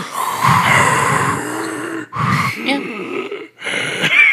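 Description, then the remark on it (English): A voice imitates the breathing of the monster Mater Suspiriorum: three raspy, guttural wheezing breaths with growly low rumbles, each pausing briefly before the next, loud and alone with no words. “Can you just do the sound of Mater Suspiriorum breathing?”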